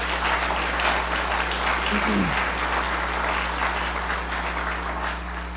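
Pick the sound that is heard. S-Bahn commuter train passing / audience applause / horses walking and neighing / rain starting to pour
audience applause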